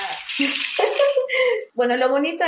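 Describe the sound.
A large rain stick is slowly turned, giving a steady, soft pattering hiss like trickling water, heard beneath a person speaking.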